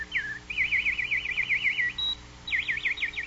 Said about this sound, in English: And so the nightingale sang on and on.